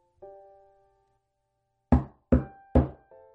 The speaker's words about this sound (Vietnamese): Lại có tiếng gõ cửa.